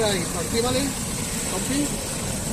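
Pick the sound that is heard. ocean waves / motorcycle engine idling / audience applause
motorcycle engine idling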